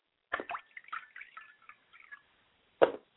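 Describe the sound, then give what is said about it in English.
Liquid being poured out as a ritual libation to the south, with a splash followed by a series of small drips and trickles, then one final louder splat after a short pause. Fairly quiet, with no voices. “And I pour libations to the south, and I say Ashe.”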